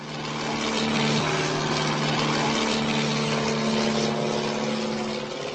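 A propeller airplane engine drones steadily in flight, a loud, continuous buzzing hum with a low tonal whine that holds nearly constant throughout, unbroken, with no voices. The plane is flying about 500 meters above the ground in poor November weather, navigating along the Sázava River toward Prague's Huchle racetrack.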